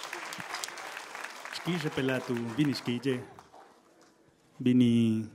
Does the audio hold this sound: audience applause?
yes